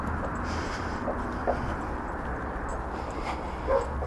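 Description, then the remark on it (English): Dogs in gardens bark and yip as they are walked past, a few scattered calls over a steady outdoor rumble of traffic or wind, with no one talking. “We're going past dogs in gardens now.”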